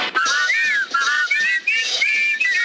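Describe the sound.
Lively whistled imitation of the titter bird's call, a string of quick warbling, gliding high-pitched phrases with brief breaks between them, loud and steady with no talking.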